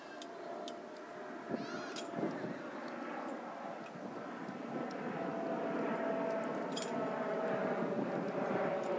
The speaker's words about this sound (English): And unfortunately we're on the flight path today, as you can hear.